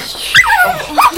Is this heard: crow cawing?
no